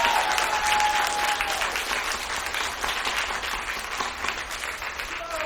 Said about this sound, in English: Give a round of applause to this man.